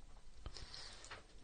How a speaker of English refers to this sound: Okay, take a bite. Now get a good, get some water in there. There you go. There you go. Yeah, see, he gets it. He's chewing.